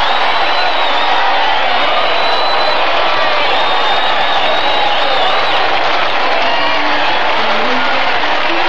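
A large crowd, Muncie's mob, cheers and roars continuously at the finish, a dense wash of shouting voices with scattered whoops and some applause mixed in, loud and sustained throughout.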